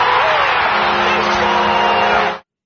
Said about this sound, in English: And the crowd is buzzing now.